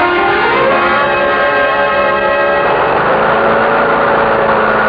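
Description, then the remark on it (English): A lawn mower engine runs loud and steady as someone mows the lawn, a buzzing, harmonic drone that roughens slightly partway through; no one speaks. “Yeah, just mowing the lawn”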